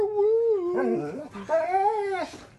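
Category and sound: animal, dog whining and howling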